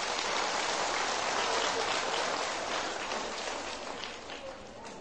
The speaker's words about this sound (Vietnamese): Nếu thấy rằng là việc làm đó là có thể đạt được trong tầm tay, các cháu hãy dành một tràng vỗ tay thật lớn.